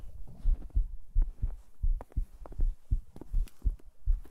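heartbeat sound effect

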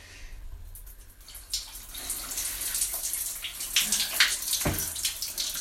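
shower water running

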